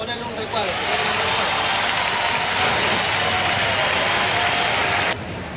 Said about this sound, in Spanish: Gabriel Boric, aplausos, digo, para el presidente saliente por última vez, terminando 4 años de mandato, ingresando al Salón de Honor del Congreso Nacional.